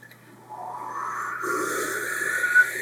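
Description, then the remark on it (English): A person imitates the Kirby noise, a cartoon sound effect, by blowing out air: a sustained, breathy whooshing tone with a faint hum that swells in loudness over about three seconds, with no talking. “I can only like make the Kirby noise by blowing out air.”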